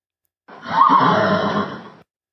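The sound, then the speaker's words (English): A Standardbred horse's whinny, a single loud call lasting about a second and a half, rising quickly then holding a shaky, vibrating tone before cutting off. No voices accompany it. “That sounds like a standard bred Winnie, right?”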